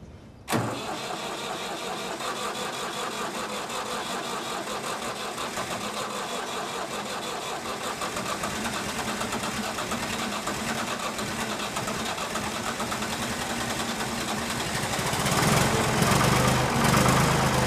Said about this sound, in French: Bon, je vais démarrer le tracteur, parce que l'autre, c'est l'ancêtre, il faut le chauffer un tout petit peu. Ça démarre.